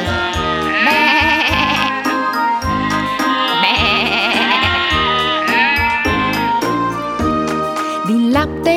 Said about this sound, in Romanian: Și miorița lapte da, și toată ziua behăia, și miorița lapte da, și toată ziua behăia. Behe!